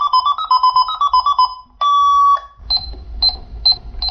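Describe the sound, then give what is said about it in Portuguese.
A Hello Kitty toy cash register plays a quick run of bright electronic beeps, then one long steady tone, followed by several short repeated beeps over a rattling clatter. “Ah, e o barulhinho que ela faz é igualzinho a uma máquina de verdade.”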